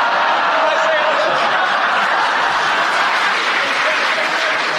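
An audience applauds steadily for about five seconds after an incorrect challenge, a dense, even wash of clapping with some scattered laughter mixed in.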